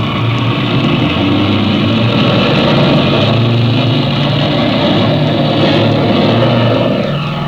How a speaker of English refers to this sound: Mother, look, I think that's Jimmy's airplane, off to the west there, see? Your eyes are better than mine, child. I don't see anything. Yes, I'm sure it's their ship. I guess you're right. I can hear it now.